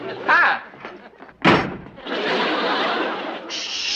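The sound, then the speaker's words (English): A man throws a drawer, which slams with one sharp, loud bang, followed by a couple of seconds of rattling clatter. A brief voice, like a short chuckle, comes just before. “Is that why he threw the drawer at you?”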